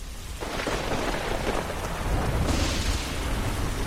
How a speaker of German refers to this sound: Tiefe Regenwolken hängen über dem Launchpad 39A im Kennedy Space Center und das Wasser perlt in langen Fäden an der weißen Außenhaut einer Falcon 9 Rakete nach unten.